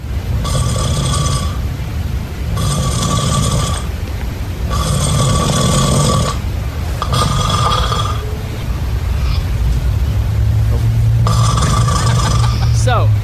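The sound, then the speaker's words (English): A man snores loudly in his sleep, recorded by his wife, with harsh rasping breaths in a steady rhythm of about five long snores, each separated by a short pause. “Here is a clip of Lunchbox snoring as recorded by his wife.”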